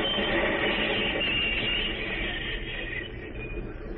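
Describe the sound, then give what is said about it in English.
A train brakes hard for an emergency stop after the emergency cord is pulled, a loud, sustained metallic squeal of wheels over a heavy rumbling roar that eases slightly toward the end. “Why the train is a stop, sir? That was an emergency stop.”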